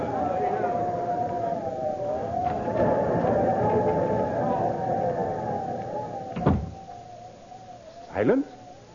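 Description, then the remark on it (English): Over a steady, wavering howl like wind, the door of a tavern in Piedmont is suddenly flung open at night near the end with a sharp knock, followed moments later by a brief creak as it swings. “Even in those days, the sudden opening of a door sometimes meant death.”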